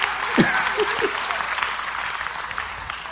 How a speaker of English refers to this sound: Hey, boys, enforcement. Enforcement. Clap, man.